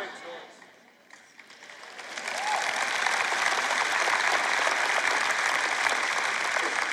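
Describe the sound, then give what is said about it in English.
An audience breaks into applause during a sermon, starting thin and scattered, then swelling after a couple of seconds into steady, sustained clapping that holds at an even level to the end. “And see, you would have clapped louder if I would have said, God loves everybody and he's merciful and forgiving and kind.”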